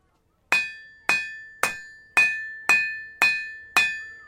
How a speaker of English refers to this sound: I'm hammering out an orangey red piece of metal here in a really authentic reproduction of a Roman forge at the Ancient Technology Centre in Dorset, which I'm visiting for Open Country.